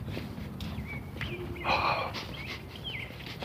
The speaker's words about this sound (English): Sorry for the, excessive sniffing, but it's, oh, they're lovely.